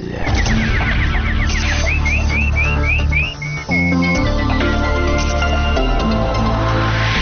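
nightingale chirping

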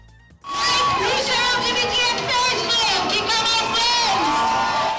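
crowd cheering

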